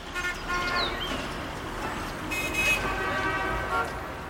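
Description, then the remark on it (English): Busy city traffic rumbles steadily while car horns toot repeatedly, sustained blaring tones rising over the dense roar of engines. “We humans are spending more of our time in crowded, noisy cities.”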